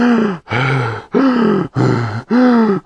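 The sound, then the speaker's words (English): A voice imitates the heavy, labored panting of a tired aeroplane: five loud, groaning breaths in a steady rhythm, continuous with only brief gaps between them. “"Can't you hear it panting?"”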